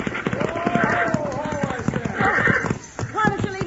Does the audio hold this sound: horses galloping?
yes